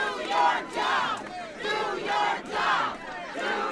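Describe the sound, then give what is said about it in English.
A large indoor crowd at a congressman's town hall meeting yells and chants in loud, rhythmic surges, voices rising and falling together in repeated waves with no single speaker standing out. “Still, the congressman kept a positive tone throughout the yelling and chants.”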